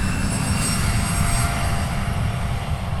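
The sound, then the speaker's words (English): A commercial SkyWest plane, flight 4237, takes off from runway 27 at the Rhinelander airport, headed to the Twin Cities. Its engines roar steadily and loudly, a thick low rumble with a high whine on top, holding constant with no voices. “This one takes off, headed to the Twin Cities.”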